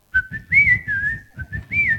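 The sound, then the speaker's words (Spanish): A thrush (zorzal) gives a clear, high whistled call: a string of sliding notes rising and dipping in pitch, in a few short phrases over two seconds, with a low rumbling noise underneath. “El ave rolinga ese.”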